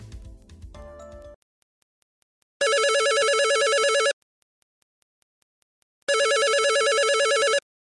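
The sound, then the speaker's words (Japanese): A telephone rings twice in two long, evenly spaced bursts of a bright, warbling electronic trill, loud, with brief tones at the start and silence between rings; a reenactment of a refund-fraud call from someone posing as a Nagaoka city official. “非常に怖いお話なんですが、実際に市内でも市の職員をかたるものから還付金詐欺の電話がありました。再現しましたのでここでお聞きください。”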